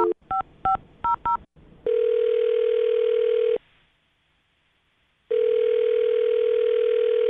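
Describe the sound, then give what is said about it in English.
A quick series of beeping touch-tone keypresses dials a woman's phone number for a call from the radio show Brooke and Jubal in the Morning, followed by a steady ringback tone that pauses briefly and then rings again, clear with no voices. “I'm dialing her phone number.”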